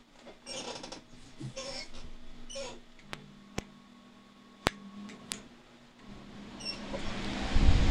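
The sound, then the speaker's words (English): An industrial fan about 2 feet wide runs with a steady low hum and airy hiss, punctuated by a few sharp clicks midway, its whooshing noise swelling louder in the final second. “We've brought the industrial fan up. It's about 2 foot wide.”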